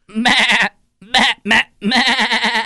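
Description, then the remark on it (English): A person mimics a goat's bleat with loud, quavering calls: a long wavering bleat, two short bursts after a pause, then another drawn-out trembling bleat. No talking. “I feel like you guys are doing a sheep instead of a goat.”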